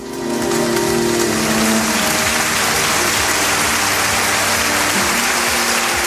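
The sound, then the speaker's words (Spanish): A heartfelt ovation closing the funeral in Huelva in memory of the 45 victims of the Adamuz railway accident: sustained applause from a large crowd, a dense, steady roar of many hands clapping at once, staying loud and even for the whole stretch, with no voices. “Con esta sentida ovación ha terminado el funeral en memoria de los 45 de las 45 víctimas del accidente ferroviario de Adamuz.”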